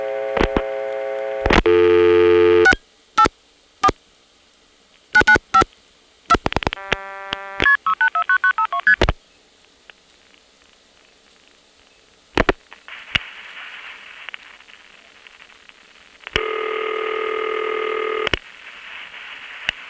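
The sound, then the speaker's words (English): Telephone exchange test line tones from a crossbar exchange during a supervision test, with sharp clicks and ticks: steady harmonic tones start and stop abruptly, a run of rapid multi-frequency beeps coming from Occoquan, then a final sustained tone, with scattered ticks throughout and a loop checker tone underneath the ticks at the end. “And at the end, if you listen carefully, you can hear the loop checker tone, another test line, underneath the ticks at the end of the soup test.”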